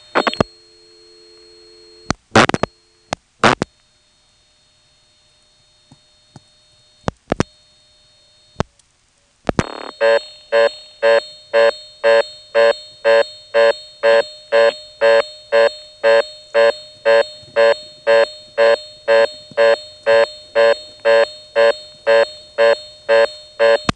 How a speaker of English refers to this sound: Again, you could hear the carrier circuit sort of ringing along with the sound of the reorder. That's a very common pattern for the 3700 controlled carrier.